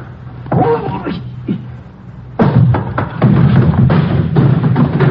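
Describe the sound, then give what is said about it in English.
A heavy barrel rolls across a warehouse floor in a loud, continuous low rumble with scattered knocks and clatter, after a brief stretch of faint, muffled voices. “Give me time to start that barrel rolling.”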